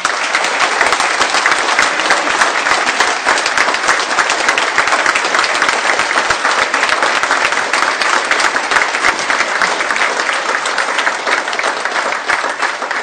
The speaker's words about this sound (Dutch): Veel dank voor al die inspanningen en wat mij betreft een groot applaus, want het gaat je goed.